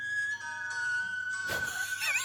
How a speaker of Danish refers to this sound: Hvad er det for en fløjt? Altså, fløjt hun med munden? Eller ja, hun fløjter selv.